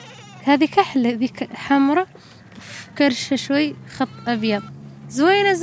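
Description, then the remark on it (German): Three goats and two sheep bleat in a quick series of wavering, nasal cries in pens built of scrap metal on a hill at a Sahrawi camp, with short pauses between calls and a longer bleat at the end over a faint low hum. “Mahshuba besitzt kein Kamel, aber drei Ziegen und zwei Schafe.”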